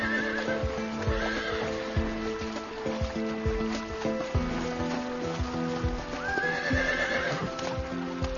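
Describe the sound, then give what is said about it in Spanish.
Wild horses neigh twice, near the start and again toward the end, while their hooves clip-clop in a steady, continuous rhythm over a sustained tonal backdrop, on Ostrov Island in the Iron Gates reserve. No one speaks. “Es un refugio natural para aves, peces y hasta caballos salvajes.”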